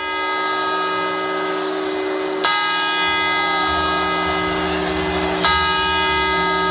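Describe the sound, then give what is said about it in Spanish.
A large clock-tower bell in Madrid, Spain, tolls slowly to mark the New Year: two heavy strikes about three seconds apart, each blooming into a long, sustained metallic ringing that hangs in the air. No one speaks. “Es el sonido que en España marca el cambio de año. Las campanadas.”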